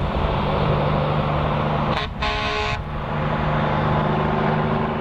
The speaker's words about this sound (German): Jedes Mal, wenn in der Blackwood Road von Greenbushes ein vollbeladener Sattelschlepper von der Mine an der Tankstelle vorbeidonnert, vibriert das ganze Kassenhäuschen.